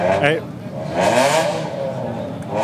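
car engine revving

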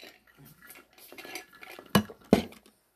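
glasses clinking

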